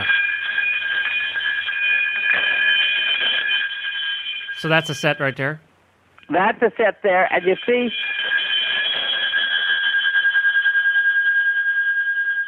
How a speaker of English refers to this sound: how long the bells keep resonating? Yeah. The sound carries, that's a good bell. When you stop shaking it and there's no more sound, it's like, duh, that is not a good bell. That's not good metal.